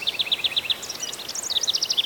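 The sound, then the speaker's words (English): Birds singing in the trees, a steady run of quick, high chirping notes repeating in rhythmic bursts, clear over a quiet outdoor background with no talking. “I know they're up there in the branches of the trees because of their beautiful singing.”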